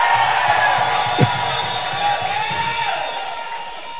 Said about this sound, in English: Somebody scream.